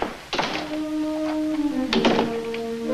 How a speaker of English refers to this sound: Closing the door of the flat, Tony looks around thoughtfully.